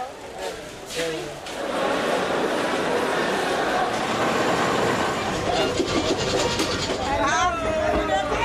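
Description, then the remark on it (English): A passenger train bound for Kano pulls out of the station in Lagos, Nigeria, with a loud, steady rumble that builds within the first couple of seconds and holds, while voices chatter briefly over the noise. “The train leaves Lagos, Nigeria's largest city, every Friday at about 12 o'clock.”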